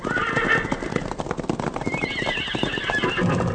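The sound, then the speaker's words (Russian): Horses whinny with high, wavering neighs over a steady, rapid clip-clop of hooves that runs throughout, with one neigh in the first second and a longer one toward the end, as Colonel Kozyr's mounted regiment rides out of the village of Popelyukha. “«А ну-те, скажите хлопцам, чтоб выбирались с хат, дай по коням!»”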